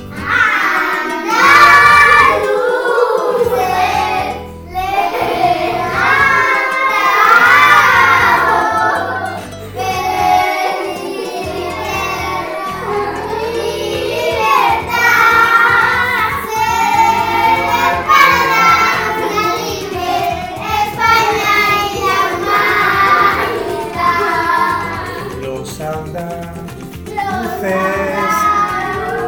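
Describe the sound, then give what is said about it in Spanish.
A group of children sings the Andalusian anthem (Himno de Andalucía) together in unison into a microphone, their high voices holding steady, wavering notes through a long continuous melody, loud and without pause for about half a minute. “Bueno, pues como estamos un poquito nerviosos, a veces se nos pasa si cantamos el himno de Andalucía.”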